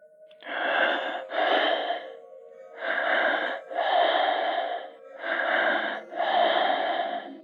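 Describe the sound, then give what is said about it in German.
Heavy, rasping breaths from a caller on a telephone line, drawn in and pushed out in a slow steady rhythm, about six breaths in pairs, slightly muffled, with a faint hum beneath. “Dann setzt ein schweres Atmen ein.”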